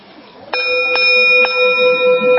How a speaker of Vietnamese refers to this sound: Cho nên cái người mà trước khi thỉnh chuông phải chuẩn bị tư thế đứng như thế nào, cầm dùi như thế nào, tâm tư phải như thế nào. Cái người mà nóng giận không được lên thỉnh chuông, tại vì họ mà nóng giận lên thỉnh chuông nghe biết liền à.